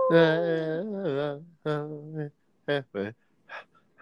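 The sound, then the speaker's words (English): A person imitates a wolf howl, starting with a long wavering howl that bends in pitch, then breaking into several shorter yelps and calls that trail off. “There's a she-wolf in the closet.”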